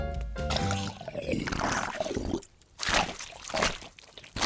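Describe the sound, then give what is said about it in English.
Wet, squishy chewing of a mouthful of marshmallow crammed into a tiny mouth, in a series of sticky bursts with brief pauses, after a short musical note fades at the start. “crams his marshmallow into his tiny mouth and chews.”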